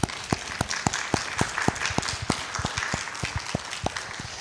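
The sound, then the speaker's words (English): Audience applause in the room, a dense wash of many hands clapping at a steady moderate level, with sharper individual claps popping out regularly throughout; a round of applause for the fathers standing in the room. “Let's go ahead and give them a round of applause.”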